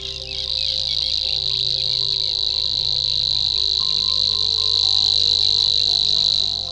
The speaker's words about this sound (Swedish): Om du möts av en konsert av gräshoppor som denna, har du hört en rörsångare. En liten fågel som mystiskt kvittrar upp och ner i vassstammarna. Den är lätt att se, men inte lätt att känna igen utifrån sitt utseende.